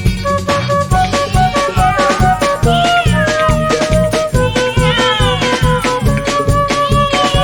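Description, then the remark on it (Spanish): Repeated cat meows ring out over a bouncy, steady-beat children's song with drums and bass about seven cats meowing from their shoes; the mewing comes in bright, rising cries, loud, repeating throughout. “Maullan estos 7 gatos.”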